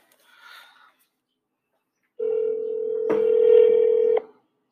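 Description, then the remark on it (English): A telephone call's ringing tone: a loud, steady electronic hum of about two seconds that thickens partway through, then cuts off abruptly, preceded by a brief faint blip. “It's ringing.”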